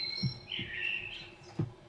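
A Eurasian blackbird sings a short, fluting whistled phrase, with a couple of soft low thumps and no one speaking.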